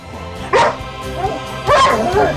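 A dog barks twice, loud, with a short gap between the sharp, throaty barks and a faint whining tone trailing in between.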